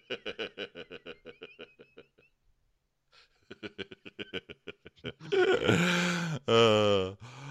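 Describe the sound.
Soft talking gives way to a loud, drawn-out yawn close to the microphone, a long groaning exhale that rises, breaks briefly, then stretches out again before fading.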